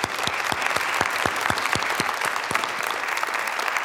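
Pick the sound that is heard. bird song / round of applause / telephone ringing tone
round of applause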